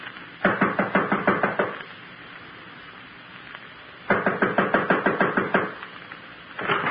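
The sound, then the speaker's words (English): Firm, rapid knocking on a second-floor apartment door, delivered in quick bursts of about eight or nine raps, a pause, then another burst, and a third beginning at the end. Fairly loud, with no voices. “This is it. I'll knock.”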